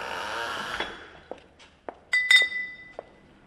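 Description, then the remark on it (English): Glass bottles on a new bottling line at a beer factory clink against each other in a run of sharp, bright, irregular knocks, one producing a ringing high tone, after a steady mechanical whir that fades out. “Well, this is our new bottling line, so it's just arrived a few weeks back actually, so it's dramatically increased our production.”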